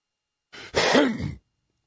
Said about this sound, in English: Oh, sorry about that. I think I meant to hit the cough button and I coughed right into the microphone.